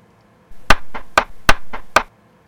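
Several sharp knocks rap on a door in a quick uneven rhythm, alternating harder and softer hits, fairly loud, with no voices.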